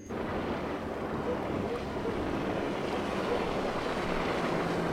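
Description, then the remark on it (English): Another boat's engine drones steadily across the water, a constant low rumble mixed with wind and wave wash that holds at an even, fairly loud level throughout, with no voices. “I heard the engine stop. Wait, I hear it again. No, that's a different boat.”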